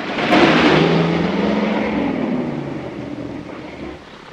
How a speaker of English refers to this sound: Woody and Brooke are in a car hurtling down the darkened country roads. They splash through a puddle.